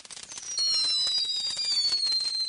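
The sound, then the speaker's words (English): Fireworks being lit, including the Big Quake and TNT Houdini, crackle in a dense rapid burst of pops, while a high, thin whistling tone glides steadily over the crackling, which grows louder after the first half second and stays sustained. “Okay, the big Quake's been lighted. One of them. So is TNT. TNT Houdini.”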